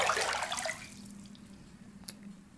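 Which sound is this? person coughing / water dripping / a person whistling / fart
water dripping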